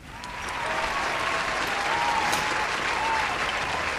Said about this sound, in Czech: Je tam nějaký aplaus potom v efektech.